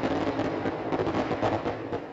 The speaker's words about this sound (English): I really hope that's fireworks going off in the background and not some kind of armed insurgency.